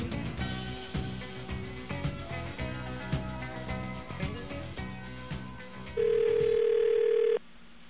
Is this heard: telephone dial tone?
yes